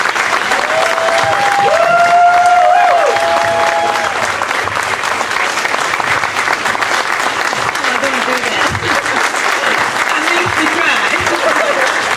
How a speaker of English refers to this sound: As you can hear, the crowd begins to go wild. Everyone stands on the stage.